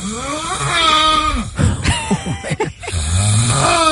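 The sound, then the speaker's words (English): Loud snoring from a sleeping man, rough and throaty with a voiced, almost moaning quality, rising and falling in long drawn-out breaths across the whole stretch with no talking. “I love him still, but I can't see anyone else's snoring being worse than his.”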